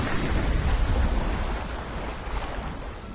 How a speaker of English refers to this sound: A large chunk of earth breaks off into the ocean.